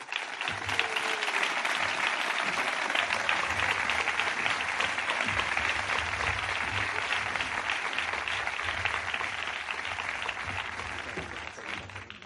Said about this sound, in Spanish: Un aplauso.